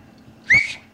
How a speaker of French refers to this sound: Moi aussi, je savais siffler pour les moutons. Vous voulez que je siffle encore? Comment vous siffliez? Parce qu'il y a plusieurs façons de siffler.